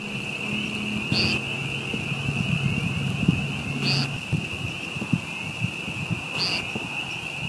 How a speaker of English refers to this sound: Those were sounds from a streamside park in Blacksburg, Virginia, on the evening of March 24th, 2017. Amidst the loud spring peeper frog calls, could you hear a short buzz-like sound? That's this week's mating bird mystery sound.